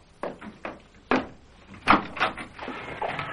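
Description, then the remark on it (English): A door being opened: a series of sharp clicks and knocks from the latch and handle, then a louder clatter and a scraping swing, with no voices. “Someone at the door.”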